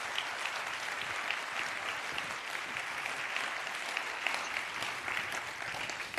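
Sustained applause from an audience welcoming two speakers to a talk, a dense even patter of many hands clapping steadily for several seconds at moderate volume, with no voices standing out.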